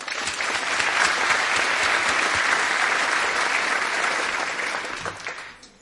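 An audience applauds a speaker after a talk on bioacoustics, a dense, loud wash of clapping that holds even for about five seconds before tapering off at the end.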